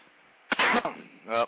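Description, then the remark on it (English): A single throat clearing: a harsh, raspy burst of air followed a moment later by a short voiced hum, with no talking around it. “I need to clear my throat.”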